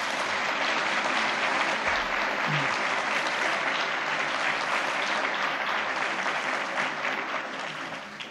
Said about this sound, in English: I think we owe them a round of applause.